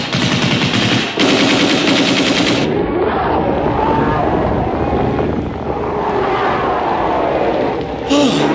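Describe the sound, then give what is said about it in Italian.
A loud, rapid burst of machine-gun fire shot into the air, the shots pounding in quick succession with brief pauses, over a rumbling background din. “Io sparo una raffica di mitragliatrici in aria per spaventarli e aprirci la strada.”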